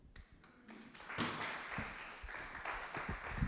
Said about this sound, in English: And those hand claps are for the Lord, right? Amen.